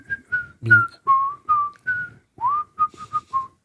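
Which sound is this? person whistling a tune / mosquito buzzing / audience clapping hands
person whistling a tune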